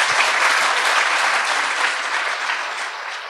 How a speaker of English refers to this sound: A round of applause for Danny.